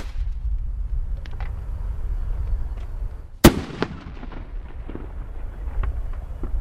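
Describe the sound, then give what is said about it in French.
A single sharp, loud bang from a bird-scaring flare pistol, like a distress-flare launcher used on boats and used here to frighten herons, cracks out midway over a steady low outdoor rumble, followed by a short echoing tail and a few faint crackles. “Donc là, vous avez un pistolet qui est un peu plus inquiétant. C'est comme un lanceur de fusée de détresse, comme on utilise sur les bateaux.”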